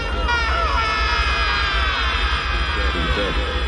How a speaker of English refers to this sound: Here's a really bad yell. I think this was Robert Forrester, supposed to be him yelling while they were going through the black hole and everything's getting all twisty.